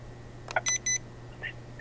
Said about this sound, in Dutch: Even, ik heb een paar keer op mijn telefoontoestel knopjes gedrukt.